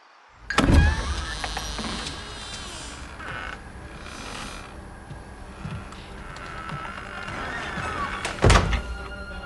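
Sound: door being closed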